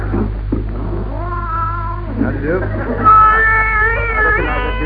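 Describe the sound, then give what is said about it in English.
A tabby cat with half a tail, in a shop selling animals, meows in long, drawn-out, wavering yowls, with a short spitting hiss at a man's boot between cries, fairly loud over a steady low hum. “Got some lovely cats here.”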